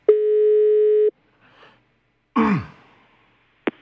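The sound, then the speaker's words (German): One steady, fairly loud telephone ringing tone of an outgoing call to a woman who answers the phone in Bern, Switzerland, lasts about a second, then stops. A brief breathy rustle and a sharp click follow, with no one speaking. “Ich habe eine Frau mal angerufen, die dort in Bern Telefon abnimmt.”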